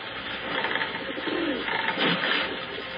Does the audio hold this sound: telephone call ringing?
no